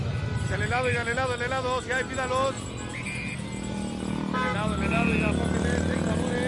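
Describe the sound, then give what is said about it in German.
Steady street bustle with traffic rumble filling the background, while voices talk over it in bursts; the busy streets around the square plaza of the Zócalo in a Mexican town, heard from a café, with birds chirping, at moderate loudness. “Nimm das Zwitschern der Vögel wahr und das Treiben auf den Straßen rund um den quadratischen Platz.”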